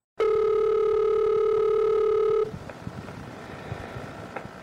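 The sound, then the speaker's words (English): A single steady telephone tone drones loudly for about two seconds, then cuts off abruptly, leaving faint crackly line hiss with a few small clicks. “This is a phone call”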